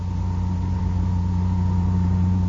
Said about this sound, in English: The car tore across the Canadian countryside towards Lake Louise.